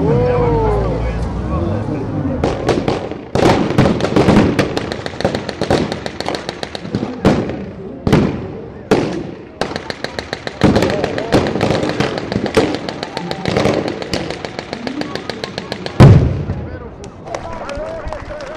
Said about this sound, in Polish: Za moment jeszcze trochę dźwięków bitwy oczywiście Wam załatwię, żeby nie było tak, że jesteśmy na rekonstrukcji